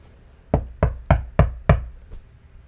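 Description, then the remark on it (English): Five heavy, evenly spaced knocks pound on a locked door in quick succession, loud, followed by a faint sixth tap and then quiet. “Open the fucking door.”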